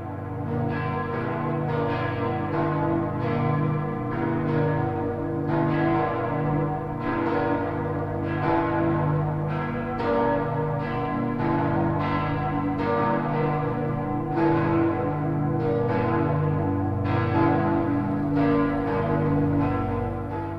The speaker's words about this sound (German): Nun läuten die Glocken großer ostdeutscher Dome die Weihnacht ein.